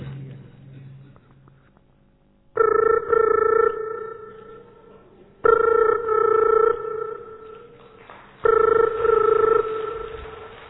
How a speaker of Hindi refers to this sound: फिर उसके बाद मेरे घर पर टेलीफोन की घंटी बजती है।